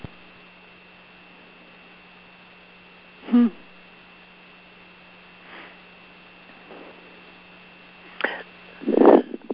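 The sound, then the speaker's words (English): A few short, sharp coughs break out at irregular intervals, the last pair louder and close together, over a steady low electrical hum with no talking. “I'm taking in the kindness of that cough”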